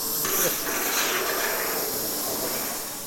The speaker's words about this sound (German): Die zischende Maschine schneidet gerade Abstandhalter für einen Pumpenbauer im Münsterland.